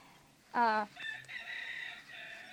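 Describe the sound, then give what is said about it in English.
A rooster crows once: a loud, strained opening burst followed by a long, wavering drawn-out note that trails off, over faint background noise. “Okay, I was afraid maybe the rooster was out doing it.”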